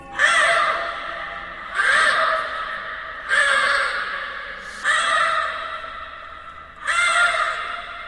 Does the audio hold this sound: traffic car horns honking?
no